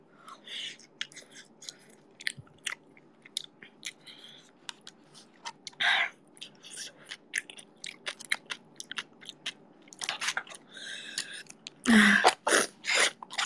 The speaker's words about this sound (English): You can hear my runny nose, I think. I don't know if you can.